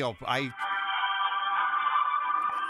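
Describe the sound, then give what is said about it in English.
A cell phone rings with a steady, bright electronic tone that holds unbroken for about two seconds, just after a brief burst of voice at the start. “Let me turn off my cell phone.”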